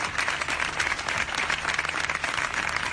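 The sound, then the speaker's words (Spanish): Sustained applause from a large crowd of family, friends and neighbours outdoors as a hearse leaves a church funeral for a young man from Málaga, dense overlapping claps filling the whole stretch at a steady, fairly loud level with no voices standing out. “A la salida del coche fúnebre, el silencio se ha roto y ha dejado lugar a los aplausos.”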